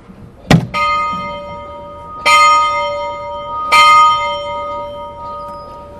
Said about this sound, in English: Gonna ring the bell. Might plug your ears.